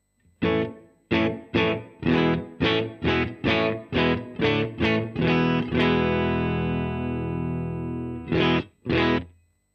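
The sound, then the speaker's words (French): A distorted electric guitar through an amp simulator, with its room setting raised to recreate the sound of a room and heard in mono, plays a run of rhythmic chord stabs with a roomy reverb, then a long ringing sustained chord and two final hits. “Voilà, donc c'est typiquement à ça que servent les réglages de room, pour recréer en fait le son de la pièce.”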